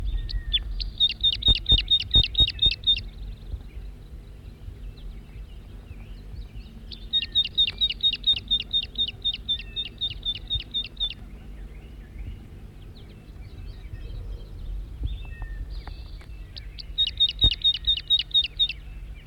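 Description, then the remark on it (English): A wild male bird, recorded from close range, gives three bursts of rapid, high-pitched repeated notes, each lasting a few seconds with pauses between, over a steady low hum. “Wild bird, stop. Circling the wild male again from close range.”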